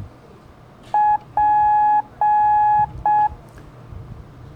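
Morse code for the letter P: a steady mid-pitched tone keyed short, long, long, short, clear and loud over a faint background hum, with no voices.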